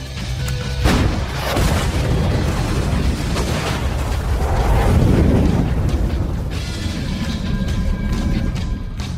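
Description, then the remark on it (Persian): A tank cannon fires with a loud, deep boom, followed by a long rumbling roar and debris-like crackle that fills the scene for several seconds, with no talking. “شلیک.”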